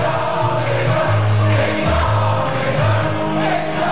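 A large crowd of football fans sings a loud, sustained chant in a stadium, many voices merging into a steady melodic roar with swelling sustained notes.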